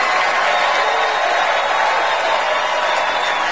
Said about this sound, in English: Standing ovation for Meryl Streep. Because she's Meryl Streep. She's like the Beyonce of actresses.